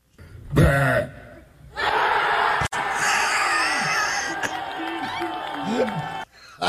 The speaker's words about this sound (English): And the best part, not only is the burp the best part. Yeah. It's the crowd. Like, he just won a gold medal. Oh, gosh. They go bananas.